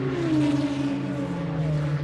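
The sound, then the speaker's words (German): A racing car, its body adorned with large pipes, roars loudly and steadily, its deep droning engine tone shifting slightly in pitch as it runs at high revs, with no voices present. “Ein Rennwagen, dessen Karosserie große Rohre schmücken, die Schlangen mit explosivem Atem gleichen.”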